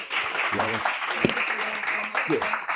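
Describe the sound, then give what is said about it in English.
A crowd of attendees applauds themselves steadily, dense clapping filling the room at moderate loudness, with a few voices and cheers faintly mixed in beneath the sustained applause. “So clap it up for yourselves.”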